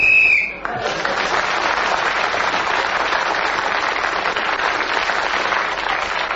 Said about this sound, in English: Oh, Clement Freud kept going with his indoor sports till the whistle went, gained an extra point and has increased his lead.